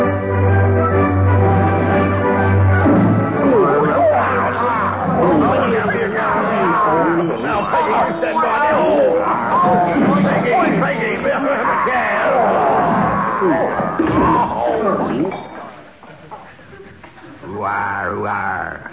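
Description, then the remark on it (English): A loud crowd scene effect: many voices shouting and jabbering at once in a dense babble, opening with a sustained low tone and easing briefly near the end before the clamor resumes. “It sounded like a young Barry Cryer was in that crowd scene.”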